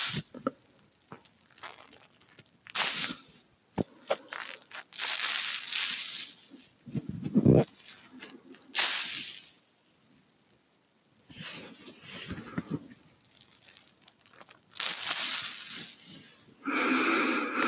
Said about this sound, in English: It's funny, it's not that wet. You know, it's not a lot of water that I put in it. So it's not soaking, like dripping down or anything. It's just a wet towel. Makes nice sounds.